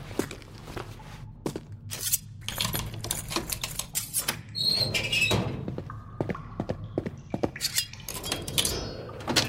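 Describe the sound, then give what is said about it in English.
Small metallic clicks, scrapes and faint rattles of someone picking a door lock with a lockpick made from a hairpin with a pocket knife, irregular, with a few brief higher tinny squeaks and no voices. “I got a handy little pocket knife I can use to make a lockpick with it.”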